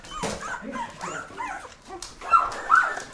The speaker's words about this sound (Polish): W tym mieszkaniu nie da się normalnie funkcjonować. Psy, odchody, psie, pogryzione łóżka, fotele. Taka ilość psów,